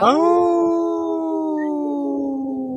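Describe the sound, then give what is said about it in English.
A person howls like a wolf, one long, loud, steady "oooh" that starts slightly higher and slowly settles lower, held for nearly three seconds with faint background noise. “We say no, and we speak wolf now. We go, ooh.”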